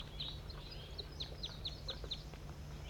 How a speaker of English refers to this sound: Wild bird.